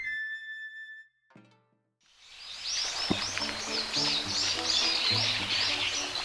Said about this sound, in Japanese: 今朝は夜明け前に船を出した。行く先も見えないような朝霧の中で、さまざまな水鳥が船の貝の音に驚いて鳴き立てる。